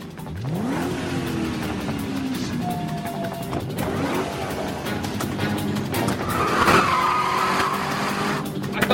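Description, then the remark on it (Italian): A car engine revs up and drives steadily while tires squeal and skid in brief high-pitched bursts, loud and continuous with no one talking. “Bella macchina, che cavolo sta succedendo?”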